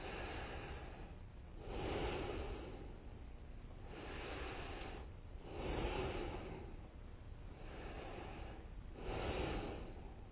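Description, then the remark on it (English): Three strong, breathy exhalations through both nostrils come at a steady pace during an alternate-nostril nine-round breathing meditation, each a hissing rush of air that swells and fades, with softer breathing between them and no talking. “So then from the both nostrils, three times.”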